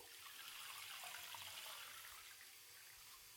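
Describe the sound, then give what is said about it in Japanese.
Steady running water pours continuously, an even hiss like a shower rinsing all the shampoo foam out of hair, with no pauses and no voices. “泡をしっかり全部落として。”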